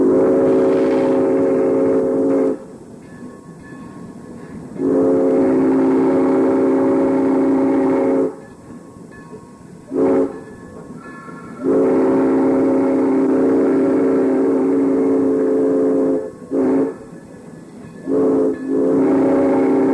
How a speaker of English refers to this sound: Another blast on the whistle as we hit Burke's Road.